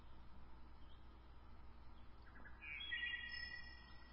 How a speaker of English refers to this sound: Here are some birds. They're calling to us.